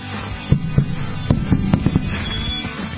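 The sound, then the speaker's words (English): A microphone drops and smashes on the floor: a burst of sharp, irregular knocks and clattering impacts, about seven in quick succession, over a steady low background rumble, with no one speaking. “Did you hear that mic drop? It was there in the background. It smashed on the floor.”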